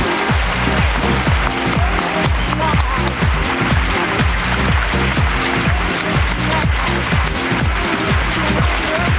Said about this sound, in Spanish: Aplauso para …, gracias.